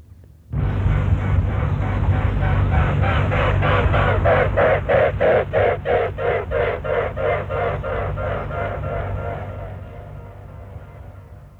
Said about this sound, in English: That's right, it's the sound of the swans flying. It's the sound of the wind going through their feathers. Now, our swan is called a mute swan, and that means it's not supposed to make any noise at all.